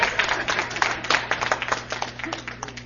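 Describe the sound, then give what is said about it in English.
A crowd at a Biafra community gathering in Dallas applauds a speaker steadily for a few seconds, many hands clapping densely together at moderate volume over a low, constant electrical hum. “Another round of applause for him, please.”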